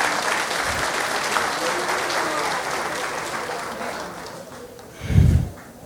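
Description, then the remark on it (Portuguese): Sustained audience applause for volunteers, a dense crackle of many hands clapping that gradually thins out, with a low thump near the end. “Uma salva de palmas para esses irmãos.”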